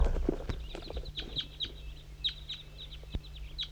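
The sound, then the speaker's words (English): A flock of about 10 birds crosses a hilltop, with decoy bird 5-3 calling for the flock, giving a scatter of short, high chirping calls in irregular bursts over a low, steady hum, with a couple of dull thumps and no talking. “I'm gonna try to get a recording of the flock.”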